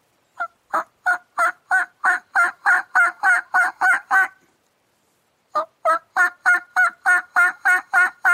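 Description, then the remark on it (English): Soft, rapid turkey hen purring notes made on a diaphragm mouth call, two steady runs of evenly spaced pulses with a brief pause between, clear with no talking. “They're not calling real loud. They're doing more of a purring and just a talking.”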